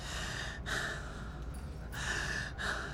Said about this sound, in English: It's hard to be quiet. I'm having trouble breathing. Just take long, deep breaths.